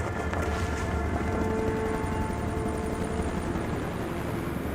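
A rescue helicopter drones steadily overhead, its dense low rotor rumble and engine whine filling the air at a constant loudness for several seconds, with no voices.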